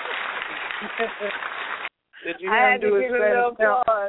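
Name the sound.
applause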